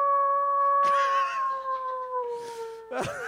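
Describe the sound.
A person imitates a wolf with a long, sustained howl that holds steady and then slowly slides downward, with a short rougher burst at the end, fairly loud.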